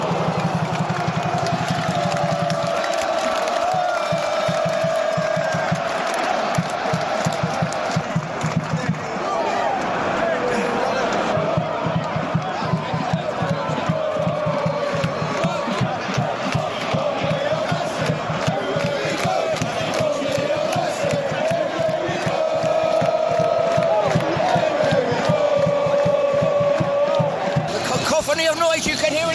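A packed crowd of football fans who have just got off a full train fills a platform at Victoria Station with loud, continuous babble and occasional shouts, over a low mechanical hum that fades after the first few seconds.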